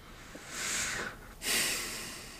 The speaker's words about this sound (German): Ich bin ganz erleichtert. Ich schnaufe schon wie so ein, ich bin total erleichtert bei dieser Aussicht.